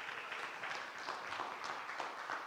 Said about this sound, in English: Hey, clap it up for them. They did a great job. Great job.